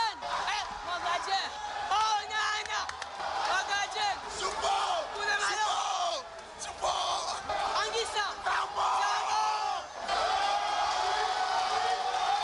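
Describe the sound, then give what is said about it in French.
A crowd of fans at the Omnisport stadium in Yaoundé cheers and shouts continuously as the Indomitable Lions arrive for a training session, many voices overlapping in loud, excited whoops and chants that rise and dip briefly before swelling again. “Les Lions indomptables sont accueillis dans la ferveur des fans admirateurs.”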